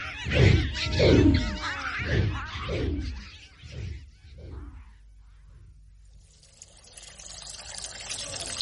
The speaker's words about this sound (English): Well, it's not a bird, Nobby, it's a dragon.